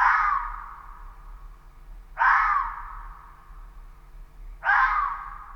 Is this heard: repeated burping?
no